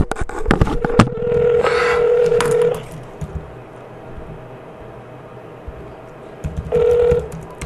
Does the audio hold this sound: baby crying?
no